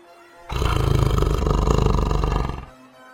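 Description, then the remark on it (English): A single loud, rumbling tiger roar rises suddenly, holds strong for about two seconds, then fades out, with no talking around it. “I'm on a tiger. Look and see.”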